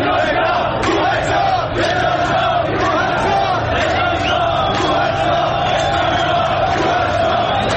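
A large protest crowd chants in unison a slogan common in recent years, first heard the previous month of Dey, many voices shouting together in a loud, steady rhythm with rising and falling cadence that continues throughout.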